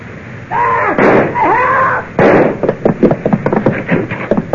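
gunshot

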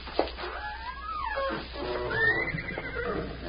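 horse whinnying

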